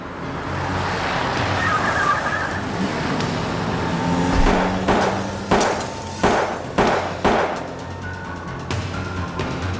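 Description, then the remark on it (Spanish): On a morning drive to work, a volley of five or six sharp, loud gunshots fired from another car cracks out over a steady rumble of car and road noise, with the brittle crash of the car's window glass shattering among the shots. “Wright sufrió cortes al romperse los vidrios”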